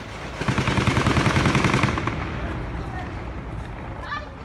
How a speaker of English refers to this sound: In this one, the camera points at a well-kept strip of lawn with a busy road beyond. But people are running, yelling, taking cover. And all the cars are trying to move in reverse. Then the gunfire begins.